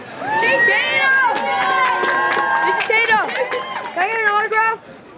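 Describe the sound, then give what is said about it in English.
A crowd gathering at Jeff Kinney's bookstore in Plainville for a visiting author, Jason Tatum of the Boston Celtics, chatters loudly, many overlapping voices with occasional higher shouts and calls rising above the steady babble for nearly five seconds before it cuts off. “A crowd is already starting to gather.”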